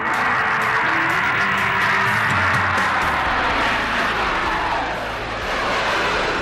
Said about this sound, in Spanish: Así suena uno de los aviones de Iberia cuando despega. No suena ni en español ni en inglés, suena a turbinas.